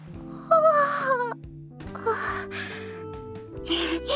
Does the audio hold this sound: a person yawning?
yes